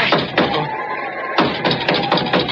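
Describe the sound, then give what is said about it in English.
A series of sharp knocks on a door, the sacred nine knocks of Oompa Papa: a few spaced raps, a short pause, then a quicker run of about six more, nine in all, fairly loud with no voices over them. “That was the sacred nine knocks of Oompa Papa.”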